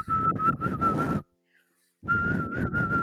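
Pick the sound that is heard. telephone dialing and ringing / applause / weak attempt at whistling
weak attempt at whistling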